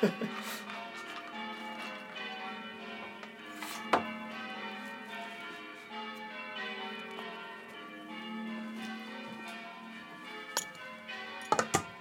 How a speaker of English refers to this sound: Well, this is Geo's first morning with the bells going, which, well, he's going to have to get used to.